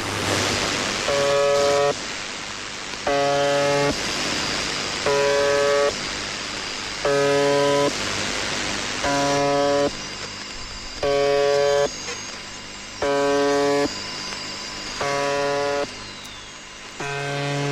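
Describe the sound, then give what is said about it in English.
A harsh, droning buzzer tone from a shortwave radio station, broadcast on the same frequency since as early as 1976, repeats in regular bursts about two seconds apart, each lasting roughly a second, over a constant hiss of radio static. No one speaks. “Let's listen to the buzzer real fast.”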